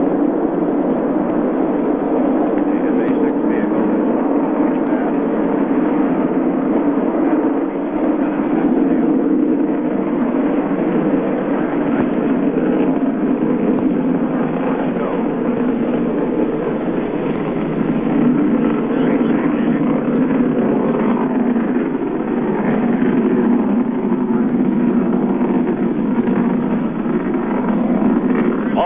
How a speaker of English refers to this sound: Big engines burning clean and hot, pushing the Friendship 7 spacecraft ever faster toward space.